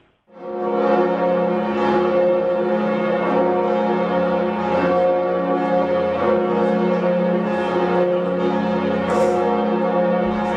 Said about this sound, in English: That's obviously some bells, but you can't tell from listening to them where they are ringing. So I'll tell you, they're in the Basilica in Budapest, Hungary.